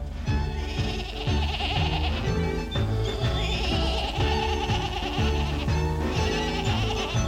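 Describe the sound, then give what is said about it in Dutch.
Quavering, goat-like bleats repeat over a loud, bouncy band accompaniment with a steady oom-pah bass rhythm, the bleating woven into the music throughout. “Mijn geitje is en blijft nu voortaan mijn mascot.”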